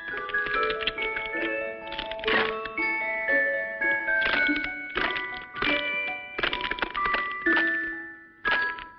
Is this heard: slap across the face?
no